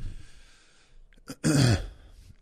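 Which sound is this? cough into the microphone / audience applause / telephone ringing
cough into the microphone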